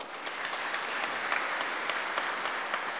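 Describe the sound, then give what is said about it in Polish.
Steady audience applause, a dense wash of many hands clapping at a fairly even level for a few seconds, with occasional sharper individual claps standing out and no talking. “Także wielkie brawa.”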